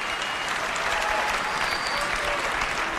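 A large keynote audience claps steadily and enthusiastically, with scattered cheers and whoops rising above the dense wash of applause throughout, reacting to Steve's announcement of a revolutionary mobile phone, the second of three products.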